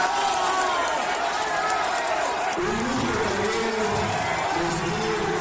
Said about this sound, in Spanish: para que también pido un fuerte aplauso. Muchísimas gracias por acompañarnos.